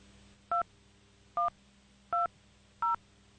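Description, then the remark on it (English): Four touch-tone telephone keypad beeps entering a Baltimore, Maryland zip code into an automated TV listings phone service, each a short, steady dual-pitched tone, pressed at an even pace about a second apart, with quiet background hum between them and no voices. “Using the touch tone keypad on your telephone, please enter your 5-digit zip code.”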